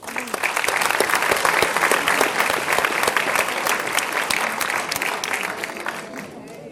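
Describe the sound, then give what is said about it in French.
Steady, dense applause from a large audience as middle school students take their places, many hands clapping at once in a continuous wash of sound that stays loud throughout and eases slightly at the very end. “Les collégiens se mettent en place sous vos applaudissements, bien sûr.”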